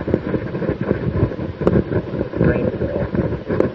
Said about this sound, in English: Thunderstorm.